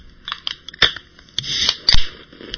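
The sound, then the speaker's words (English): A soda can being opened: a few sharp metallic clicks and snaps, then a brief rush of bright fizzing hiss, with another crisp pop near the end, the fizzing drink spilling onto a laptop. No one speaks. “Oh, it's fucking fizzing and it got on my laptop.”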